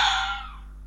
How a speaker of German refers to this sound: So klingt es übrigens, wenn ein Fuchs vor Freude ganz aus dem Häuschen ist.